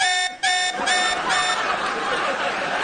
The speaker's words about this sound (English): Wait, so the alarm goes off if I leave the stage? I thought it was only if I left the studio.